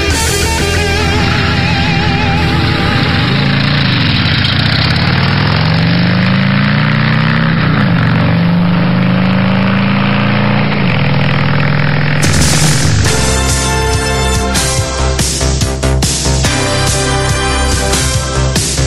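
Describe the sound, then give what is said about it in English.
The engine of an Amber Whiskey Harley-Davidson Street Glide motorcycle rumbles loudly, its low throb rising and falling through a few revs, before louder music takes over near the end. “win this great American motorcycle”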